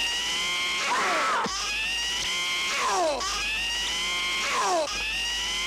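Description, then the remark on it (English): A loud mock car burglar alarm, sounding when someone tries to break into a car, built from repeated high-pitched screams, each rising shriek sliding down in pitch, cycling about every two seconds over a steady electronic hum. “the next time somebody tries to break into your car, if you have the … Burglar Alarm, here's what they'll hear”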